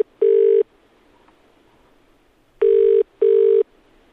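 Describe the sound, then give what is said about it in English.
A phone line ringing as heard by the caller: a single steady ringback burst, a pause, then a quick double burst, loud and clear with no talking. “Okay, so that was the answer phone. Let's try again.”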